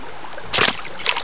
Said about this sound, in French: Aussi, nous sommes allés enregistrer des sons dans la forêt. En voici quelques exemples. La rivière.